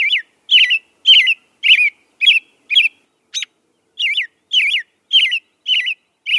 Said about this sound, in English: Like Audubon's phoebe, the American robin that nested in your garden last spring will likely return to nest there again, and when it does, you'll hear its cheery song.